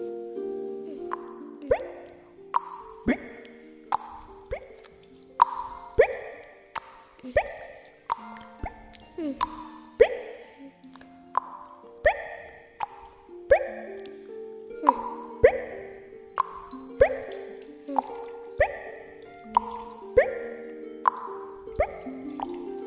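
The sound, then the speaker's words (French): Water drops fall one after another in a cave, each landing as a clear, resonant plop with a ringing pitch, repeating at a steady, unhurried pace for about twenty drips with no voices. “Des gouttes d'eau qui tombent, la terre qui craque, hein, l'eau qui va dans la rivière souterraine.”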